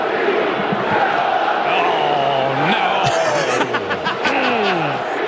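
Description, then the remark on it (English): A large crowd chants "sell the team" in unison, a loud, steady roar of many voices with rising shouts and scattered whistles cutting through. “And it's like, oh, they are really, like, as a group, to chanting sell the team.”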